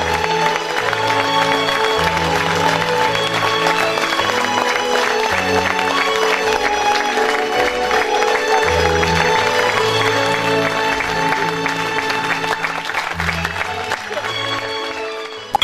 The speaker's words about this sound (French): Mesdames et messieurs, sous les applaudissements